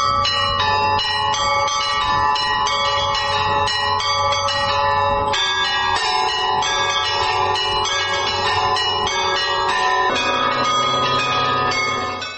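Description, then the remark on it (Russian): A set of church bells, a mix of old and new bells, rung by one bell-ringer using ropes and foot pedals, rings loudly and continuously, several bells of different pitches struck in quick, overlapping patterns with a steady rhythm. No voices are heard. “У меня же тут как бы набор, какие-то были колокола, какие-то старые, какие-то новые, какие-то прибавились, то есть разнобой.”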